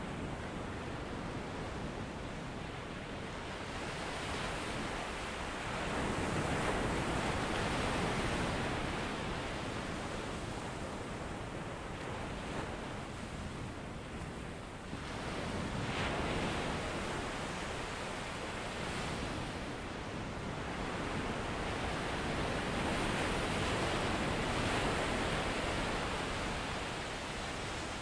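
Ocean waves roll onto the shore in a steady, full wash, surging and receding every several seconds with a constant hiss of surf underneath and no voices.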